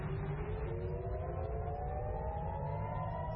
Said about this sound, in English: Those are air raid sirens triggered in Tel Aviv on Friday, just after midnight Tel Aviv time, 2140 UTC.